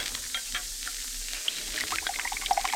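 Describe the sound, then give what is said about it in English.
Del Monte tomato juice pours into a glass in a steady, hissy stream with small bubbly splashes that grow busier toward the end, about three seconds with no voices. “Hey, Del Monte tomato juice. That's for me. Opener. Glass.”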